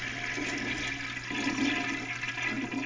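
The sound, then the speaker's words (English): A toilet flushes socks down with a steady, rushing gurgle of water that swells slightly midway, fairly loud with no voices. “Yeah, he said he put his socks to wash them in the toilet, and he accidentally hit the and flushed his socks down the toilet, so it's in front of the pot.”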